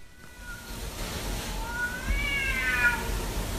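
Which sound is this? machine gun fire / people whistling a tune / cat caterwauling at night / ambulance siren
cat caterwauling at night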